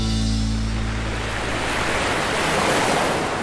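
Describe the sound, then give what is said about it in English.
Steady, loud wash of surf breaking along a rocky shore on the coast of Donegal, a continuous roar of churning water with a low rumble at the start and no voices. “On Donegal's coast, where land meets sea, exists a rich world of organisms attached to bleached rock and floating in pools.”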